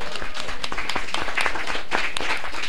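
A crowd applauds steadily as a request is submitted, many hands clapping in a dense, continuous patter at a fairly loud level with no voices standing out.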